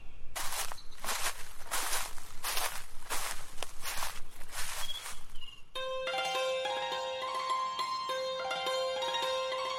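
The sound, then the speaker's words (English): Footsteps crunch along a well-trodden nature path in a steady rhythm, roughly eight loud, scuffing steps over about five seconds, before the walking stops and sustained music takes over. “I watch my footsteps. You should walk on a well-trodden path so that the nature will be protected.”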